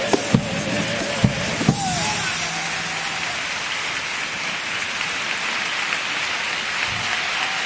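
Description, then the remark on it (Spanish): Much of the Teatro Falla audience rises to applaud a first pasodoble lyric by Constantino Tovar Verdejo: sustained, dense applause, a steady roar of clapping that holds at an even level throughout, with a few brief cheers and shouts rising over it in the first seconds. “Se pone en pie gran parte del Teatro Falla para aplaudir esta letra de Constantino Tovar Verdejo en este primer paso doble.”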